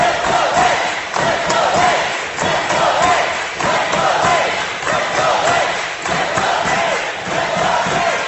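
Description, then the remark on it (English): A volleyball crowd cheers loudly and steadily during a break in the action at a volleyball match, a dense roar of many voices with rhythmic surges of chanting and clapping that swell and dip every second or so. “The crowd getting into it.”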